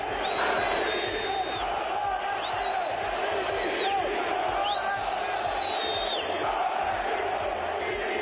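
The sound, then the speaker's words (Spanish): A large stadium crowd of Real Madrid fans at the Bernabéu shouts and chants 'Florentino dimisión', calling for the club president's resignation, in a steady, dense roar, with three long, sustained whistles rising above the noise, one after another. “Hubo gritos de Florentino dimisión, hubo división también entre los aficionados del Real Madrid, algunos que recriminaban a los que gritaban Florentino dimisión y estos que impropiaban con algún insulto a los que defendían al presidente.”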